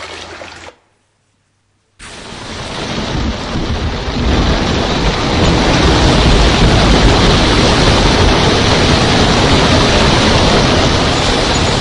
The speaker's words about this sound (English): A furious squall came up. And a squall is a word for a storm. A big storm. See if you can hear the storm coming. Listen carefully.